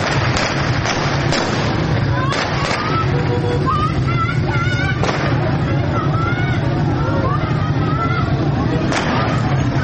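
Several sharp, irregular gunshots crack out over a loud crowd of protesters shouting and clamoring as they throw stones at a police post during a clash with police officers in Fanuj, Iran, on a Tuesday evening, with constant rough, wind-buffeted background noise throughout.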